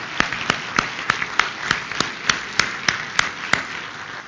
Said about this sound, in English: Would you guys stand up, and would you give them a round of applause for all that they've done?